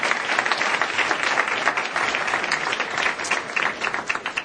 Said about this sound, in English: Well, please join me in giving another round of applause to our fantastic panelists and everyone who made a commitment.